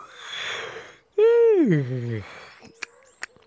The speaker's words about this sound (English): Thought Hare, as he gave a long, hard yawn.